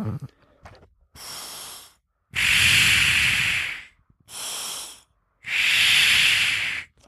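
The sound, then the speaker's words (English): Breaths drawn through a Power Lung respiratory muscle trainer with a mouthpiece, which trains inspiratory and expiratory muscles at the same time: four harsh, hissing airflow bursts, shorter quieter ones alternating with longer, louder roaring ones in a steady in-out rhythm, with no talking. “This one is similar to the elevation training mask, not because it's a mask though, but because it trains inspiratory and expiratory muscles at the same time. So for this one, here's what this one sounds like for those of you wondering.”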